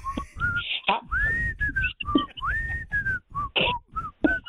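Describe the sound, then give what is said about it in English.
A person whistles a bouncy tune, a quick series of clear, short notes with a few rising slides between them, with no talking. “You can whistle.”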